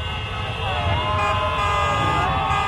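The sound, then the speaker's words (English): Motorcycle horns blare together in a loud, sustained chorus of overlapping tones, with a low engine rumble underneath, as the motorcycles get the signal and the parade gets underway. “Then the motorcycles get the signal. And the parade begins.”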